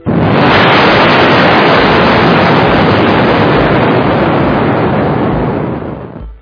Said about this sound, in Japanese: まあとりあえず爆発してもらいましょう。